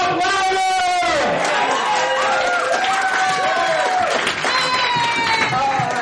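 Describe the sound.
A large crowd cheers and shouts continuously as a performer is called up, many voices overlapping in loud, high-pitched whoops and yells that stay steady for the whole stretch.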